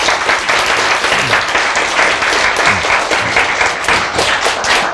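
An audience applauds steadily throughout, a dense wash of many hands clapping at an even, fairly loud level with no voices rising above it.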